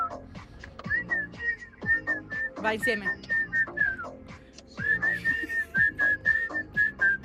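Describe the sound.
Three people whistle a song together in steady, sustained notes over a busy background with voices. A brief spoken phrase cuts in partway, then the group whistling picks back up, clear.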